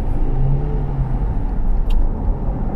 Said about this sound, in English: We're driving in a car,